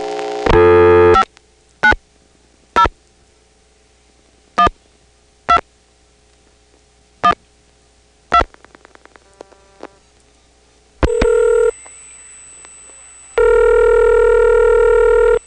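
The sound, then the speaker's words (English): Telephone trunk signaling as a number is dialed, the trunk flashing after the last digit, 8, is dialed: a loud tonal burst, then a steady series of short evenly spaced beeps, a brief flash with a subtle honk, and a final sustained buzzing tone, with no talking. “It'll wait till the last digit, dial 8, the trunk will flash. You may hear that subtle honking sound when it does that.”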